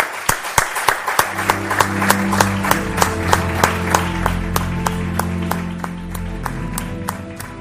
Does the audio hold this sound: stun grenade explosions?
no